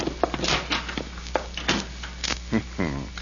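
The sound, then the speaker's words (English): A back door is opened and shut amid a flurry of sharp knocks and bumps, with a low steady hum underneath and a brief voice-like sound near the end. “Get out the back door, quick.”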